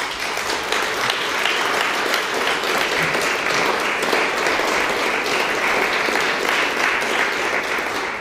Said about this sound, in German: Wir freuen uns, dass ihr dabei seid und aus dem Saal kriegt ihr schon mal unseren Applaus.